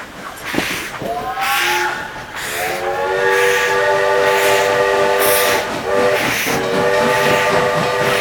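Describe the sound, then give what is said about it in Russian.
A steam locomotive gets underway on rails, pulling train cars, with a loud, steady rumble, while a multi-toned whistle sounds in long sustained blasts with short breaks between them. No one speaks. “Поэтому, когда поршень двигается, колеса тоже приходят в движение, начинают вращаться, и паровоз начинает ехать по рельсам и вести за собой вагоны поезда.”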